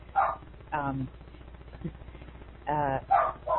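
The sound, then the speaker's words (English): A dog barks at someone walking around the house, about five times in two short bursts, a pair early on and a quicker cluster near the end. The barks are fairly loud but slightly muffled, with a quiet gap between them. “and I'm sorry, there's somebody walking around my house making my dog bark.”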